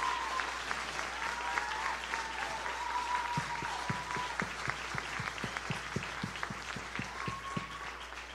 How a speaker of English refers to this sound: So if you guys, once again, if you'll just give them a round of applause, they're just amazing.